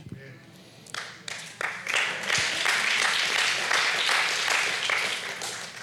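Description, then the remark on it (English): A few scattered claps start things off, then quickly swell into steady, sustained applause from a crowd that stays fairly loud to the end. “Don't clap yet, it gets better, guys.”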